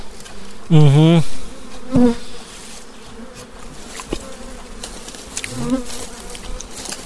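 Honey bees buzz around a hive: a loud, wavering drone swells for about half a second, a shorter buzz follows, then fainter buzzing drifts through quiet background noise with no one speaking.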